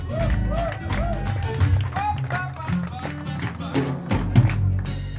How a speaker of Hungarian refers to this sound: Nagyon köszönjük szépen a meghívást a Szimplakertnek, nekik is jár a nagy taps!